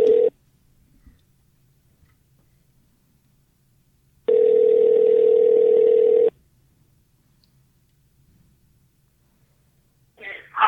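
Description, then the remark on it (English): A phone line ringing back as the caller phones a guest: a steady electronic tone buzzes for about two seconds, falls silent for around four, then starts again, clear with no one speaking. “I'm going to call him in 5 minutes, so I'm going to give him a ring-a-ding-ding.”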